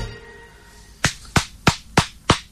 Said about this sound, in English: Well done. Well done. You're the only one clapping.